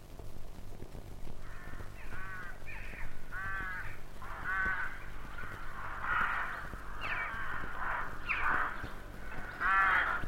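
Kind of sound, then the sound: bird, rooks cawing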